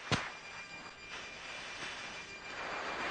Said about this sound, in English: This is audio from his firing pass. He rolls in, saying, "Two's in," and then you hear the low growling sound of gunfire.